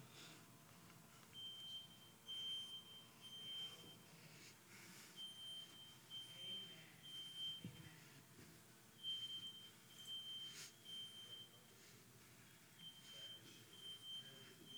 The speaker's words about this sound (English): This is my smoke alarm.